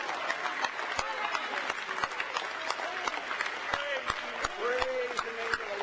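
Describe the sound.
An audience at a church service applauds steadily in praise of the Lord, a dense wash of many hands clapping with sharper individual claps popping out, while voices call and murmur faintly underneath.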